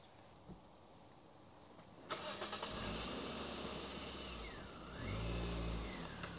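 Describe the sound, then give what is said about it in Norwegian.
After a couple of quiet seconds, a car's engine noise swells up loudly and a vehicle rushes past, its pitch bending as it goes, with a deep rumble near the end. “Slipper ikke unna bilene.”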